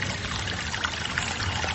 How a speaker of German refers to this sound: Wir sind hier an dem Punkt, wo der Fluss Agua Fría mit dem Rio Paz zusammenfließt.